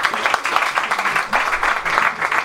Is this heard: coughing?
no